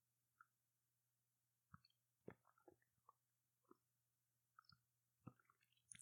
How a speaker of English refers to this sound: We're going to take a brief sip of some fig Thanksgiving coffee. Excuse me for a moment.